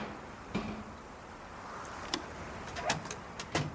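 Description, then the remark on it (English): Police station doors being unlocked and opened: a few sharp mechanical clicks and clunks land at irregular intervals over a low, steady background rumble, with no voices. “unlock the doors.”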